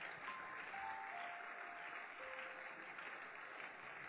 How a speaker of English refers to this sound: Please keep clapping. They are coming.